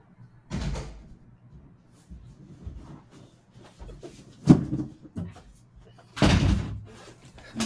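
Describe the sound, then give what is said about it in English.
A front door is opened and shut for someone at the door, giving three solid thuds and rattles spread over several seconds, the last one loudest, with faint indistinct voices in between. “I have to get the door for Anna.”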